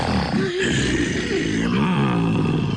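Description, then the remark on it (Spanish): A deep, rumbling gray wolf growl rolls on for about three seconds, loud, its pitch wavering as it swells and snarls, with no talking. “Iba rodando, rodando, rodando, rodando y escapando cuando de pronto se encontró con un terrible lobo gris.”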